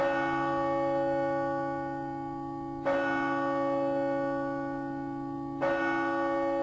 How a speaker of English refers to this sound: Those are church bells, and the ringing of those bells, linked to the Catholic Angelus prayer, has long been a reminder of the devout religious beliefs of a nation where 85% of citizens self-identify as Roman Catholic.